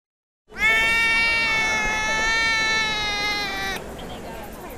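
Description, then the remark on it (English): A single long, drawn-out cat meow, loud, holding a steady wailing pitch for about three seconds before cutting off, leaving a faint background hubbub. “For most of us, dogs go woof and cats go meow, but there are different breeds of both.”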